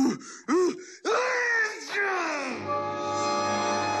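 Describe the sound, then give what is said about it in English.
A man's loud, exaggerated sneeze: several rising, moaning gasps build up, then a sudden explosive burst trails off into a long, sustained droning tone. “I left Sneezy with another Gesundheit and went out the door before he blew me out.”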